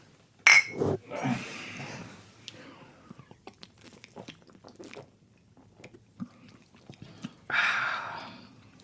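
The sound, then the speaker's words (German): Glasses of Oberdorfer Helles beer clink together once in a toast, a bright ring near the start, followed by quiet sipping, swallowing and scattered small clicks of glassware. “Wir trinken zuerst das Oberdorfer Helles, weil wir Klosterbufen sind. Alles klar. Chin Chin.”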